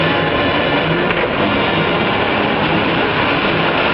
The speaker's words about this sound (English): The train barrels toward them.